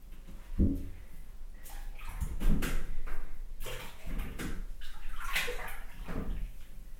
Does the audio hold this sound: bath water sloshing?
yes